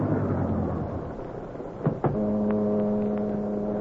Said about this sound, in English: and to add to the eerie darkness of the night along the waterfront, a heavy mist had risen, and it swirled and eddied about the long black car, which, moving like a sinister shadow, finally came to a stop alongside a deserted waterfront building.